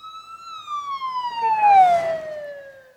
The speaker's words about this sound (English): I want to hear a siren so I can scare my dad right now. Okay, go ahead.